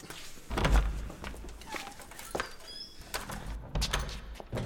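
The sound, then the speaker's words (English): A door opens with a low thunk, then a few slow, heavy footsteps come in, with faint bird chirps in the background. “I advise you open the door. Now.”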